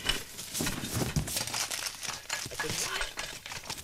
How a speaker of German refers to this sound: Och, nun hören Sie doch endlich auf, überall herumzukramen, Frau Elster.